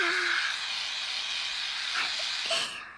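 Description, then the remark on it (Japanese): Steady fizzing hiss of carbonated foam being worked into a customer's scalp and hair, a continuous bubbly crackle that holds for a few seconds, swells slightly near the end, then fades out. “では、お客様の頭を炭酸のシュワシュワですっきりパッチリしていきますね。”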